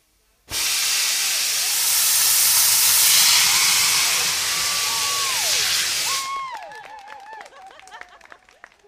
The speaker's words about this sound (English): We've just witnessed the incredible sight of a punt being blasted along the river by a trail of sparks and flames, and at a pace, I'd say faster than walking pace, but not quite a jog.